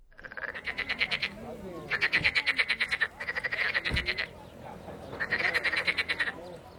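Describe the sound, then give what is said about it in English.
Frogs croak in the marshes near Basra in southern Iraq in repeated rapid, pulsing bursts of trilled calls, several chorusing at once, loud with short gaps between the bursts. “Frogs in the marshes near Basra.”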